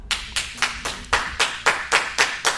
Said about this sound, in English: So cost amortization. By applause.